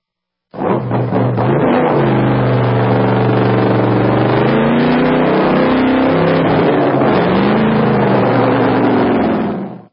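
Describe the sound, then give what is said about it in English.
A loud hot rod engine revs hard at a drag race with rising and falling pitch sweeps, a rough throaty roar sustained for nearly the full length with no one speaking. “Drag racing, drag racing.”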